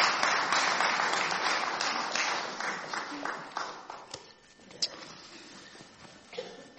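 An audience applauds, a dense wash of many hands clapping that starts full and loud, then gradually thins out and fades, leaving a few scattered claps near the end.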